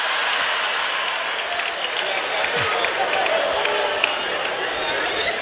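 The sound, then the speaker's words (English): An audience applauds steadily, a dense wash of many hands clapping at an even loudness throughout, with no pauses and a faint murmur of voices mixed in. “You are clapping for yourselves.”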